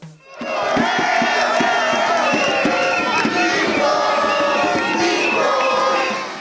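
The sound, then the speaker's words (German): A large crowd of Costa Rican football fans cheers and chants loudly and continuously after a national team World Cup win, at the Fuente de la Hispanidad roundabout in San José, Costa Rica, a dense roar of many voices with rhythmic shouts and whistles rising throughout. “In Costa Rica hat die Fußball-WM wochenlang für Jubelstimmung gesorgt.”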